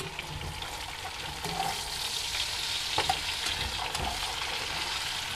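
Chicken with a little cinnamon sizzles steadily in a frying pan while a utensil stirs and mixes it, with occasional sharper clicks and scrapes over a constant hissing crackle. No one speaks.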